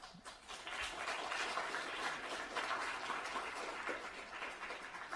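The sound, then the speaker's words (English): An audience claps after a presentation, steadily for about five seconds, a dense wash of many hands at an even, sustained level, with no voices standing out. “I hope you can hear the enthusiasm of the audience who is applauding to you, and I'm also hoping the online audience who is joining us also is applauding to you, because it's a very thorough presentation that you gave about a sneak peek.”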